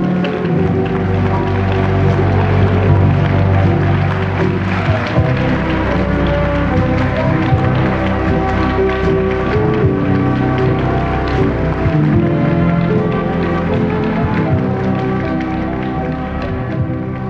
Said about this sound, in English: I want everybody in the building to give the Lord a good hand clap to let him know God's heard.